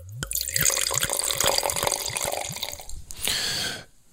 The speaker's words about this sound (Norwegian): Så dette her jeg har smakt den før, bare, men jeg må smake den igjen, for jeg synes det så deilig å drikke vin når jeg kan prate med dere. Så her må vi helle I glasset.